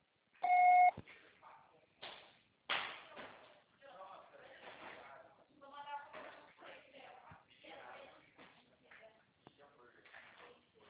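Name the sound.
answering machine beep tone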